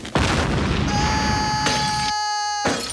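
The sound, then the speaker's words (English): A loud cannon-like boom bursts out as a cannon fires a man out of a studio, followed by a sustained roaring rush with a ringing whistle tone and a couple of abrupt crashing bursts near the end as he smashes through bottles. “He's fired out of the studio through a museum of sandpaper and smashes through bottles of acid in the Quickie Mart.”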